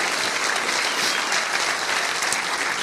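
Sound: applause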